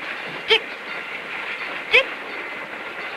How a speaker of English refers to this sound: watches the train cars speed by as they wait.